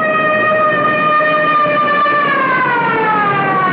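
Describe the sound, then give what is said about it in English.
A police car siren wails steadily and loudly as the car races toward a scene, its tone sliding downward toward the end as if the vehicle is passing by, with no voices present. “Meanwhile, a police car races for the scene.”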